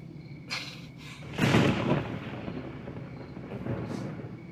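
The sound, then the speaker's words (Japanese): A low, rolling rumble of thunder swells up after a second and slowly fades back into a dull, steady roar, with no voices. “今の雷、 全然気づかなかったよ。”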